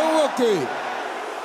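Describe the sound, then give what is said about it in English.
During a prayer, a group of men's voices shouts a short phrase back together against curses in a loud, falling burst, then fades into an echoing hum. “Brothers, can I hear you shouting the same thing?”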